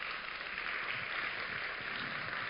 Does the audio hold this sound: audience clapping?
yes